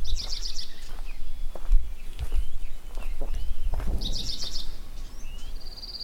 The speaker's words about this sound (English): Oh, I hear that Hutton's vireo again. Ooh, that'd be nice for you to get. Because that's a difficult song to capture. It's such a boring little song.